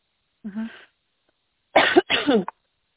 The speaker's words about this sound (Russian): извините, что кашляю, что поперхнулась.